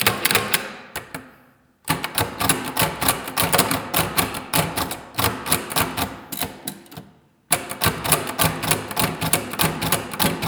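Loud mechanical clacking of a braille typewriter as a blind person writes, printing dots, with rapid strokes in quick bursts separated by two brief pauses, a bell ringing at the end of a line, and no voices.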